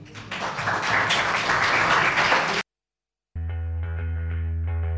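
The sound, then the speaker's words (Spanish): A burst of loud, dense applause for two guests on the UMH Day program of Radio UMH, a group clapping for a couple of seconds, cuts off abruptly; after a short silence, steady tonal music begins. “Un aplauso para ellas.”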